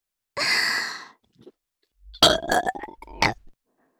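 A long, breathy exhale comes first, followed after a short pause by a loud, drawn-out burp with a few rough, croaking pulses, close to the listener and with no talking.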